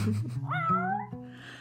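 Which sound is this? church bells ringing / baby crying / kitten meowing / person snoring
kitten meowing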